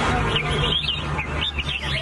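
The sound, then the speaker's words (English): Several caged songbirds sing at once at a bird singing contest, a dense, continuous tangle of bright chirps and trills over a low background hum, fairly loud, with no one talking. “It's bird singing.”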